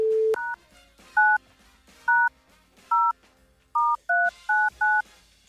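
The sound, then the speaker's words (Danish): A phone number being dialed to place a call: a short low tone, then a rapid series of about eight crisp two-pitch touch-tone beeps in an uneven rhythm, clear, with no voices over them. “Skulle vi ikke bare ringe, hvis hun tager telefonen”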